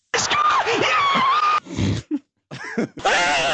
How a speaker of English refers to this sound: I think that first scream is better.